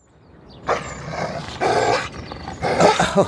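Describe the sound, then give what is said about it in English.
A neighbour's dog growls and barks in three harsh, rough bursts, loud, with no one talking. “But that isn't our dog, it's our neighbour's.”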